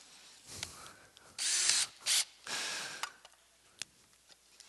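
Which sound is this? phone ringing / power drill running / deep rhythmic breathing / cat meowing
power drill running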